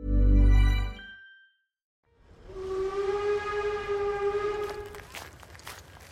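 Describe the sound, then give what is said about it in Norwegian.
A train arriving in Kristiania early one morning: its horn blows one long, steady blast over a rumbling, clattering rail noise, following a short deep thump and a brief silence. “Halvard kom til Kristiania med toget tidlig en morgen.”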